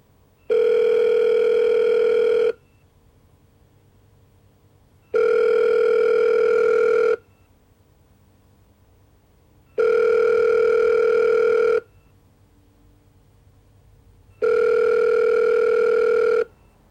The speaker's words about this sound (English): Our phones were ringing nonstop.